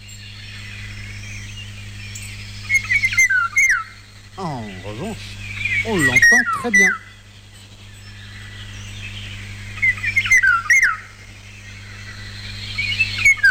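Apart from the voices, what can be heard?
eurasian golden oriole song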